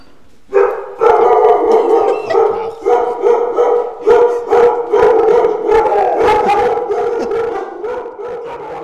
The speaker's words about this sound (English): So you'll have to adjust your levels for 10 barking dogs when we first get back there.